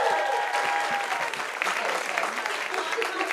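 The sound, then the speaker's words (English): A crowd at the Hollywood Improv claps steadily for the show's guests, a dense, sustained burst of applause filling the whole stretch with scattered whoops mixed in, staying fairly loud throughout. “We'll give it up for our guests.”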